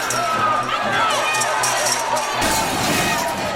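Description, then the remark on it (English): A crowd of a few hundred demonstrators riots while storming a state building, roaring in a dense, continuous wall of shouting, with steady rhythmic thuds and bangs pounding underneath as barricades are used as battering rams against glass doors and windows, before the din surges into a harsher, noisier burst. “These demonstrators are relentless. They hurl more barricades. The mob swells.”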